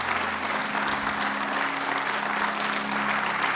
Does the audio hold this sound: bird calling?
no